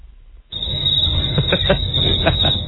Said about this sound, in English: The crickets are funny.